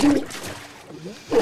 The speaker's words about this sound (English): The soldier now forces Tully's face into the water of a toilet bowl.